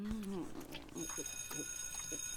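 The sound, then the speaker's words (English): A school bell starts ringing partway through, marking the end of class, a steady, high, metallic ring that holds on to the end, with people talking underneath it. “Well, you guys heard the bell. Class is over, cunts.”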